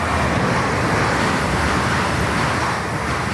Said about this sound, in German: 300 Züge rauschen pro Tag über die Riedbahn.